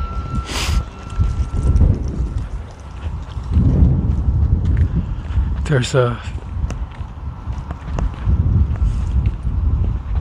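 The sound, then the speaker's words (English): Gusty morning wind, at about 54 to 56 degrees, buffets the microphone in heavy, low rumbling bursts that swell and ease repeatedly, with a brief higher chirping sound near the middle. “It was kind of just, gust here, gust there when I started out, but it has started to pick up to be relatively breezy here.”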